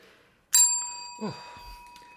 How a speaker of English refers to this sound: The bell, please, my dear.